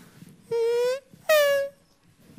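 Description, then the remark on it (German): A race car driving past at a race track with a Doppler effect: two loud, buzzy, harmonic-rich tones, the first pitch sliding slightly upward, then a brief gap and a second, brighter tone that drops in pitch. “Dann hören wir diese Fahrzeuge an uns vorbeirauschen.”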